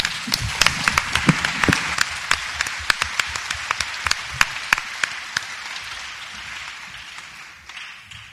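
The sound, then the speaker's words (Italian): An audience bursts into applause for the pedagogists of the association Crescere Insieme, many hands clapping in a dense, crackling wash with a few sharper individual claps standing out, gradually thinning and fading away over several seconds. “E quindi io vorrei anche un applauso a tutti loro”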